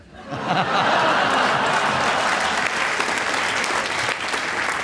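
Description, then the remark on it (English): Sustained audience applause swells quickly and holds steady and loud for several seconds, with some scattered laughter mixed into the clapping. “a point for the round of applause that he was searching for”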